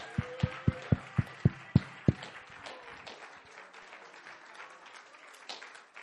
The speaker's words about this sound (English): Would you clap your hands unto Jesus one more time?